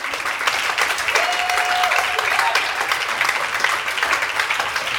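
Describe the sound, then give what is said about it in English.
An audience claps steadily for several seconds after being asked whether they watched the college football playoffs on New Year's Eve, a dense, sustained wash of applause with a faint whistle-like tone briefly rising above it. “One third of those people clapping are liars.”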